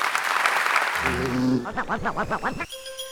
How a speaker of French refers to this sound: Alors ce soir, chères auditrices, chers auditeurs, je vous invite à applaudir Jean-Claude Amezen.